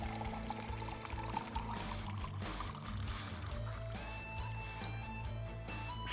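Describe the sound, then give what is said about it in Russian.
Cider pours steadily into a large mug over several seconds, a continuous gurgling stream with a rising tone as the vessel fills, heard alone without talking. “Говорю, бери кружку побольше. А простой воды нет? Ну что ж, сидр тоже подойдет, если немножко.”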